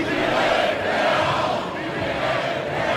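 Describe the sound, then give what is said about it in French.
A festive crowd at the Dunkirk carnival, at the start of the parade of the bande des pêcheurs heading to the town hall for the herring throw, fills the air with a dense, steady roar of many voices shouting and cheering together, loud and continuous for the whole few seconds. “Au départ du grand défilé de la bande des pêcheurs, les musiciens ont dû se faire une place pour entraîner la foule vers l'hôtel de ville et assister au célèbre jet de hareng, du jamais vu, même avant la Covid, ambiance.”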